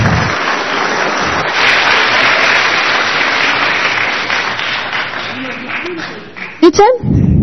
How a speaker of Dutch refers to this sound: Super, nou, dan mag jullie nou een applaus.